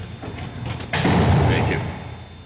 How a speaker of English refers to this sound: You can close the cell door, guard.